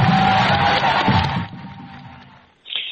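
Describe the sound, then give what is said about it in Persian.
A crowd of university students cheers and applauds the words of Adel Ferdowsipour in a dense, sustained roar that gradually fades, followed by a brief burst of noise at the very end. “بسیار حرفای عادل فردوسی پور با تشویق دانشجوها همراه میشه”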